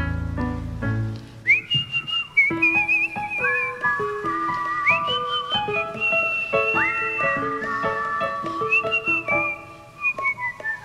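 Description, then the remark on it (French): Someone whistles a simple, singsong nursery tune, clear, stepping through short sustained notes and little slides, with a soft low accompaniment underneath and no talking. “Je siffle alors une comptine en me disant tu es francophone.”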